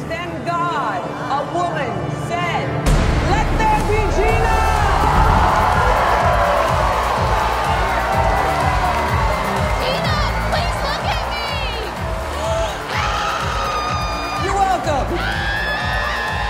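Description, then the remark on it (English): A loud, dense crowd cheering and shouting continuously, with overlapping whoops and yells rising and falling over about sixteen seconds, energetic throughout. “hard to spot a crazy person in here. They're all crazy.”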